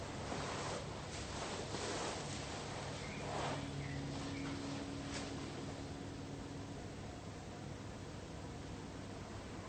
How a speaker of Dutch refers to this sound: Je hoort de wereld, of je hoort de wind.